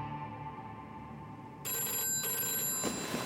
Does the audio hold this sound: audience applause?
no